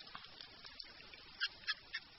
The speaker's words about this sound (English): Over several years, Melo Santos has recorded the sounds of Araguayan river dolphins that came calling at the Mocajuba fish market. That's on Brazil's Tocantins River.